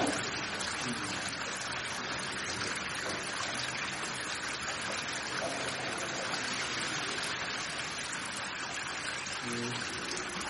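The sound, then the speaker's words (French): Grape juice drains steadily through a press sieve before pressing, in wine making, a continuous splashing trickle like a small stream that stays even and fairly loud throughout, with faint voices underneath. “Donc le jus s'écoule.”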